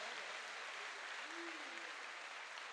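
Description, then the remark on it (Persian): A crowd claps steadily and densely with hands raised at an evening celebration, a continuous wash of many hands throughout, with a faint voice rising briefly in the middle beneath the applause. “شب دست پایین دست زدن نیست، باید دست بالا باشه.”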